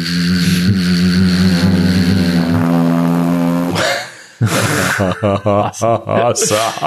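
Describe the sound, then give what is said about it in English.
Voices hum a loud, steady, buzzing drone in imitation of the four turboprop engines of a C-130 Hercules military cargo plane gliding over the ocean at night, holding it for about four seconds before it cuts off and someone starts talking. “As … and I have both illustrated, you hear the droning hum of 4 turboprop engines”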